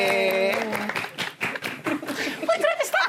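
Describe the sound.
Applause and clapping from a group fill the moment, mixed with excited voices and some laughter, with tonal cheering or calls rising over the dense patter of hands.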